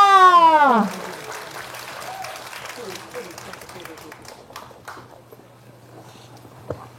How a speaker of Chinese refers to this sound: 我们再次热烈掌声欢迎台南教区王敏正主教。